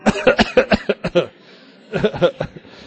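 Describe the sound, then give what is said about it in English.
An audience at a talk coughs together on request in a dense, overlapping burst of many short coughs, then a brief lull before a second ragged wave of coughing, with a few chuckles mixed in. “So to make it nice and peaceful for the during the talk, can we all cough in unison at the beginning and have it all done and ready?”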